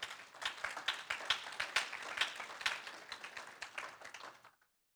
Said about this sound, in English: Thank God we had these pretty voices singing today, and I just kind of sit back. Can we give them a hand clap this morning?